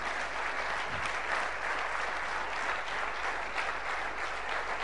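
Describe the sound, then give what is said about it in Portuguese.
An audience applauds for Jesus, a dense, continuous wash of many hands clapping at an even loudness for several seconds, with no voices standing out. “Dê um aplauso a Jesus.”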